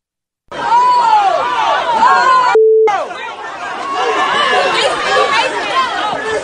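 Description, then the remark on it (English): A loud crowd of many overlapping voices in Philadelphia shouting and jeering continuously at police officers arriving at a scene where other officers had been shot, with a brief steady electronic beep cutting in partway through before the yelling carries on. “That is the crowd in Philadelphia taunting police officers as they roll up to the scene where other police officers had been shot.”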